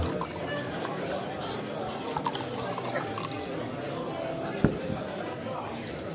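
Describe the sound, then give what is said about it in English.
More wine glugs steadily into glasses over a low murmur of background voices, with one sharp glassy clink standing out near the end. “More wine”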